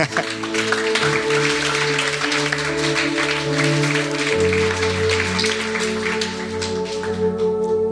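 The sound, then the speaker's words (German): A crowd claps steadily for about eight seconds, a dense, even patter of many hands, while sustained keyboard chords hum underneath and shift to a new chord partway through. “Hey, gebt euch doch mal selber einen Applaus.”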